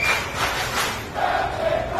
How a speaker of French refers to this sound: Déchu de son commandement, il a quitté son navire à la nuit tombée, sous les acclamations de l'équipage.